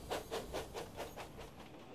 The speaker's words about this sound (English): But what happens when he's in the quarry? The sound of Thomas's brakes has changed again. Thomas's brakes echo.